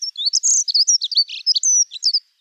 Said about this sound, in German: zum Abschluss dieser Episode haben wir natürlich nochmal eine Vogelstimme für euch, eingepackt in den Rahmen des Vogel des Tages